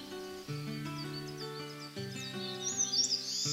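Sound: birds chirping and singing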